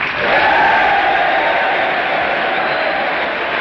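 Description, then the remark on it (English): Members of Congress and the gallery applaud and cheer General of the Army Douglas MacArthur in a dense, steady roar of clapping and voices that holds loud and even throughout, with no pauses or single voice standing out. “The Democrats rise again, as do the members of the gallery, and the applause for General MacArthur starts up once again.”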